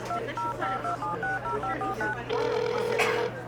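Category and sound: signal or alarm, phone keypad dialing tones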